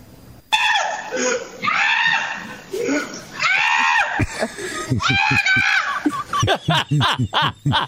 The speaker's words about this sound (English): He sounds like the screaming goats.